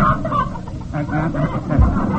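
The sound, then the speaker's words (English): A hen named Tilly clucks in a quick run of short, muffled clucks, steady, the sound dulled from inside a bag, with a low rumble underneath. “Precisely, and I've got Tilly, my joke meter hen, right here in the bag.”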